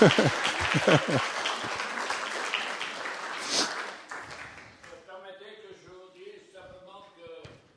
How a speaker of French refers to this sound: Ouais, encore, un applaudissement.